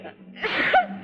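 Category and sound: human body sound, sneeze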